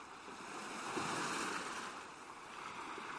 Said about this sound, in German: So ist für mich dieses Plätschern der Wellen.